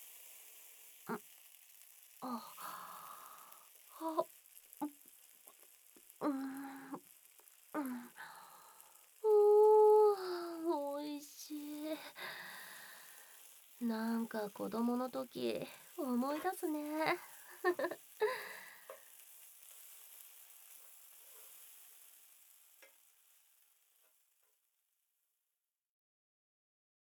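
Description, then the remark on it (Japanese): Monjayaki sizzles on a hot griddle in a steady, crackling hiss that runs beneath people chatting, then fades away into silence toward the end. “彼氏いたら、ここでもんじゃなんて食べてないって。あ、そろそろいい感じに焼けてきたよ。”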